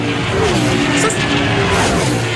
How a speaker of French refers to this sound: je pense vraiment qu'on peut s'en passer du Grand Prix puis des sons de moteur. Les as-tu nos sons de moteur, là?